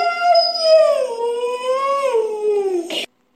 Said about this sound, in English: He's a Siberian Husky. And he's going to say, I love you.